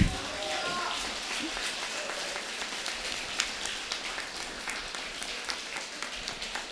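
An audience applauds, many hands clapping in a dense, steady patter that holds at a moderate, even level for several seconds, with a few sharper claps standing out now and then.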